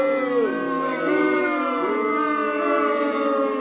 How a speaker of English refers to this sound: No, I just got booed.